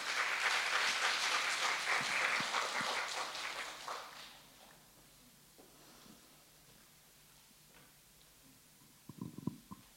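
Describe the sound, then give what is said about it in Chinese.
An audience breaks into steady, dense applause to encourage a woman from Agape Wednesday about to share her testimony; it holds strongly for about four seconds, then fades into near quiet, with a few soft thumps near the end. “我们一点掌声鼓励她啊。”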